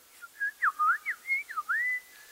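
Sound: birds singing at sunset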